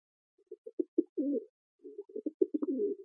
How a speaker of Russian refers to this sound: Последним на голубятню явился большой неповоротливый сизый голубь